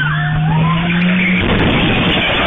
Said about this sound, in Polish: Auto jest rozpędzone i bezpardonowo naciera na grupę ludzi.